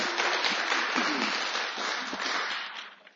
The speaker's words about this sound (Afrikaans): Geef die Here groot hande klap.